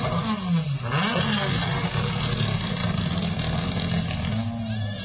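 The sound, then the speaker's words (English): A rally car engine revs hard and loud, its pitch rising and dipping through gear changes as it pulls away, with a rough, continuous roar throughout. “That will sound nice in the radio, betcha. That's Gary Jennings leaving us.”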